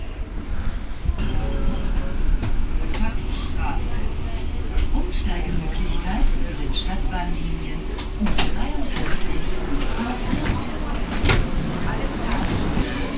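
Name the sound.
subway train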